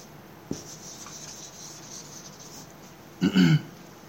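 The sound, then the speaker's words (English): A red pen scratches steadily across paper, faint, with a small click near the start and a louder brief scrape or rustle toward the end. No one speaks. “And I got colored pens, so I'm going to use red for fire.”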